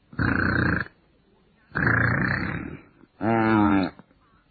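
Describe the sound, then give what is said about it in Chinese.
A man's voice imitates the loud snoring of someone pretending to be asleep: three long rasping breaths with pauses between, the last one buzzing and vibrating with a gravelly, grunting tone. “还得假装睡，还得假装打呼噜。”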